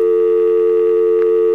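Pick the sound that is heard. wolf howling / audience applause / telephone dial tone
telephone dial tone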